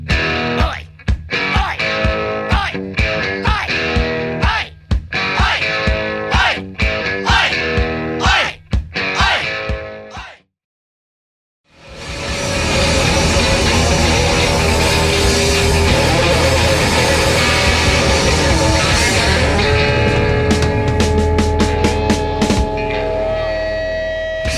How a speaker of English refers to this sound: the distortion is purely from the power amplifier. You'll hear it more on the lower notes, the lower chords, but all the distortion is created simply by taking the guitar and turning it up until it is ripping loud.